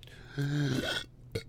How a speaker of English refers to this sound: burped right into the microphone. I'm sorry you had to hear that.